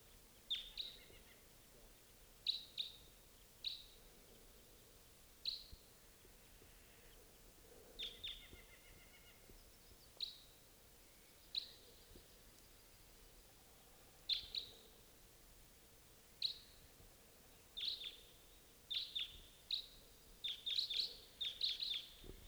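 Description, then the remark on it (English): A flock of birds gives sharp, high chirping calls, scattered at first and then bunching into quick overlapping bursts toward the end, over a low steady background hum. “Here comes a bird. Flock.”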